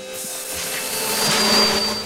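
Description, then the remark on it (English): A vacuum cleaner, dragged out of a shed into a back garden, roars steadily, a broad rushing hiss with a thin high whine, swelling a little louder partway through as it accidentally sucks up a load of leaves. No one speaks. “Dennis drags the vacuum cleaner out of the shed into the back garden and accidentally sucks up a load of leaves.”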